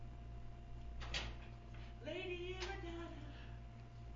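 A door is opened nearby: a sharp clunk, then a drawn-out, squeaky creak lasting about a second, over a steady low hum.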